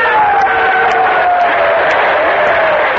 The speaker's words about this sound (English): Applaud and cheer, because that is a record made by your brothers.